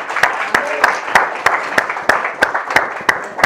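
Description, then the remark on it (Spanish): An audience applauds for the Lord, many hands clapping together in a steady, even rhythm of about three claps per second over a dense wash of scattered clapping and crowd noise. “¿No merece que le demos un aplauso al Señor por eso?”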